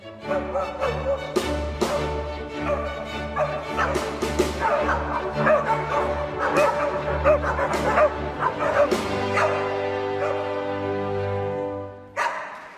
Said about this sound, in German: Sie hörten die Jagdsymphonie von Leopold Mozart, dem Vater von Wolfgang Amadeus, samt Hund. Dass der Cocker Spaniel im Klassikkonzert in Kopenhagen mitkläffte, ist kein Versehen, sondern Absicht.